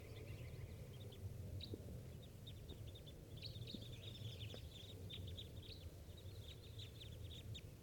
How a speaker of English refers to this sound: I see another 7 or so flying in. There's about 14 birds up in that dead tree.